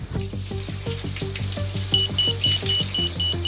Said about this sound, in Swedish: Att stå i duschen när larmet går är fruktansvärt. Det är varken roligt eller enkelt att torka sig och klä på sig under stress. Jag harvar mig ut ur duschen och plockar snabbt upp personsökaren.